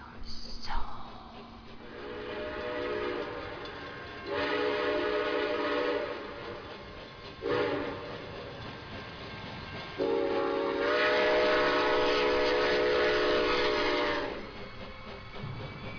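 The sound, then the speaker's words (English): A train rumbles steadily along the rails while its horn sounds several times: two medium blasts, a short one, then a long sustained blast, loud. “Step inside, take a ride upon the terror train. All aboard, be forewarned, these rails house fear and pain.”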